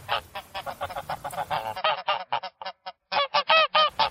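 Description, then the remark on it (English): A rapid series of loud, nasal goose honks from a pair of geese at a pond in late spring, overlapping at first, then continuing as sharper separate calls with brief gaps. No one speaks. “In late spring, a pair of geese frequents the pond with their fuzzy yellow goslings.”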